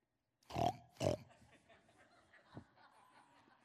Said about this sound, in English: Pig.